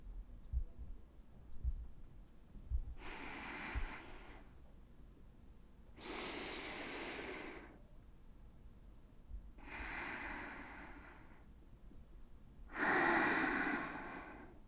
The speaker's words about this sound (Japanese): 音を抑えつつ深呼吸をする。